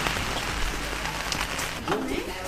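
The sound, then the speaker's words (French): Heavy rain pours down steadily in Perriers-en-Beauficel, Normandy, France, in a dense, constant hiss, loud throughout, with a faint voice briefly audible underneath near the end. “Il pleut des cordes à Perrier en Beauficelle.”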